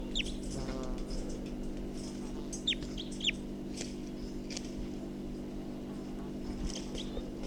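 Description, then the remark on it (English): A bird, recorded as bird number 254, gives a few short, high chirping calls, some sliding downward in pitch, scattered irregularly over a steady low mechanical hum. No one speaks. “So recording, this is bird 254 again.”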